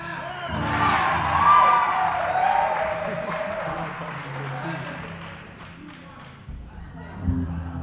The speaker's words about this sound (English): Were they clapping when we said we were only going to play two